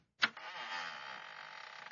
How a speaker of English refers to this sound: Uh-oh, Kingfish. The last time I heard a door like that was on a tomb.